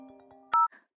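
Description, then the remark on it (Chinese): A mobile phone ringtone rings for an incoming call: steady electronic tones, then a sudden loud bright chime of two pitched notes that cuts off abruptly, with a brief fainter trill after. “嗯，是小天的电话。”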